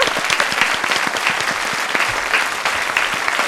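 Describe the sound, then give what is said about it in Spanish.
Steady audience applause welcoming a guest from Grupo DAXA to a radio programme, a dense, continuous patter of many hands clapping at an even, fairly loud level throughout, with no voices standing out. “Mira el aplauso, te lo ponen largo y todo.”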